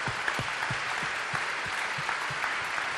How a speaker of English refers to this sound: Now let's give them just a thank you and an applause right here. Pojďme jim teď poděkovat tím, že jim zatleskáme. Let's honor this.